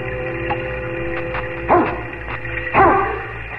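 A dog standing in the doorway of a stone house in a forest clearing barks twice, a couple of loud, sharp woofs about a second apart, set against a steady low background hum with a few faint clicks.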